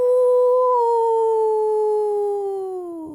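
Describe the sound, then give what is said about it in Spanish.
A young girl's voice imitates a wolf howl, one long sustained tone that slowly slides downward in pitch and fades near the end, loud with no other sounds. “A la pequeña se le dibujó una sonrisa e inmediatamente cogió todo el aire que pudo y aulló como si fuera una auténtica loba.”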